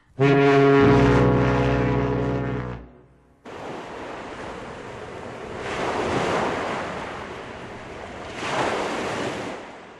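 A deep, sustained horn blast opens, then steady rushing surf takes over, with waves swelling and breaking twice on the shore amid windy noise. No voices.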